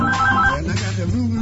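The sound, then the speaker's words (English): A telephone rings in the Jimmy Doan show studio with a short burst of bright, warbling electronic tones at the start, then fades under a busy murmur and low background hum. “It's actually physically impossible for the phone for to ring here in this studio.”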